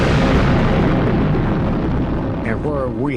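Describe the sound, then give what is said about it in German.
A huge atomic bomb explosion, the bomb Little Boy dropped from the bomber Enola Gay on Hiroshima on 6 August 1945 at 8:15 local time: a loud, sustained roar of deep rumbling that stays steady throughout, with a voice beginning to speak over it near the end. “Der Bauch der Enola Gay gebiert die Bombe Little Boy.”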